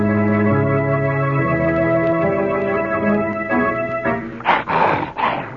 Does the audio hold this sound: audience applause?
no